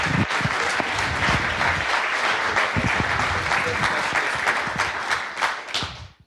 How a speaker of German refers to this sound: Und ja, solange erst einmal einen Applaus auf jeden Fall schon mal für die Veranstalter